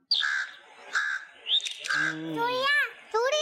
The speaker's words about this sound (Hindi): ये है कौवा। कौन है ये? कौवा। ये कौवा था। कौवे को चिड़िया बना दिया आप लोगों ने। कौवा है ना, कौवा अलग है चिड़िया अलग है जी।